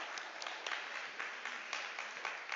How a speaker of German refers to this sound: Können wir einen ganz kurzen Applaus für unsere gestressten Lichttechniker machen, die das wirklich schwitzend und konstant hier durchziehen.